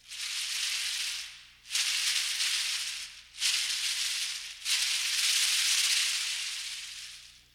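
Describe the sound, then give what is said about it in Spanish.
Yaqui tenabari butterfly cocoon rattles shake in four long, dry, hissing bursts, each swelling and fading with brief pauses between, loud with no voices. “O los capullos de mariposas como el tenabaris yaqui.”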